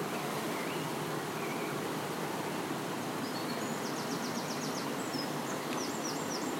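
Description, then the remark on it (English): A rushing waterfall roars as a steady, dense hiss of water that never lets up, with a few quick, high bird chirps breaking through near the end. “Here's the other waterfall.”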